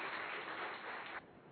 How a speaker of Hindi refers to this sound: जोरदार तालियों के साथ भाई साहब आपका अभिनंदन।